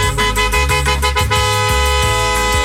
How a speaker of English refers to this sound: That honk indicates that some SOB in a BMW stole your parking space. Again, this lesson is the soft two-touch.